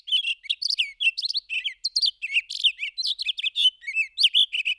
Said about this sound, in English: The way you would normally encounter a Townsend solitaire would be hearing this on a Rocky Mountain hike in summer.